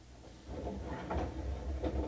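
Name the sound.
train doors sliding open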